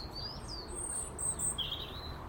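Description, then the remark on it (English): A female blackbird calls with a few thin, high whistled chirps and short trills, fairly soft, while eating bread and porridge on a calm, still, dry and cold morning, over a steady low rumble of background noise, with no one speaking. “As Mrs. Blackbird stuffs her belly with bread and porridge.”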